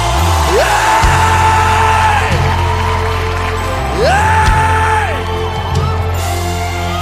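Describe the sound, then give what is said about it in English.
A large crowd screams to Jesus, yelling and whooping loudly and continuously, with sustained rising shouts over a dense, roaring wall of cheering voices that fills the space for several seconds. “Now, can we scream one more time to Jesus?”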